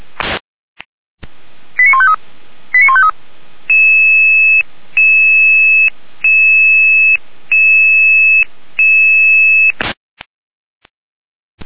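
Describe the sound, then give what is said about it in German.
Red Cross emergency dispatch alerting tones for incident number 5459, an ambulance (RTW) request to Erdmannsdorf: two quick bursts of warbling dial-like tones, then five steady, evenly spaced electronic beeps, each about a second long, clear and loud with no voices. “Einsatz Nummer 5459. Alarmierung.”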